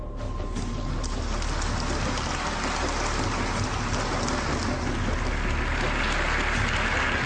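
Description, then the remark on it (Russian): Thunderous applause from a large crowd at the United Nations, ending Ahmadinejad's speech from the UN rostrum: a dense, steady roar of clapping that stays loud and unbroken for several seconds, with no voices standing out. “А эти бурные аплодисменты завершили резкое выступление Ахмадинеджада с трибуны ООН, полное ненависти к Израилю.”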